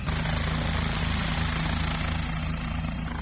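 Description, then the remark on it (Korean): A police helicopter with pilots aboard lifts off as onlookers with cameras gather around it, its rotor beating in a steady, loud low throb over a dense wash of engine and wind noise, with no one talking. “자, 이제 헬리콥터가 드디어 이륙을 하나요?”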